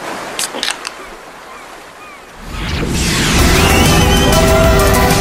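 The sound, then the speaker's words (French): A few light clicks, then a loud, continuous crunching and rattling starts: hands digging and stirring through loose ice in a cooler to see what is inside, with scraping clatter building and carrying on to the end. “Allez, on fouille la glacière et on regarde ce qu'il y a à l'intérieur.”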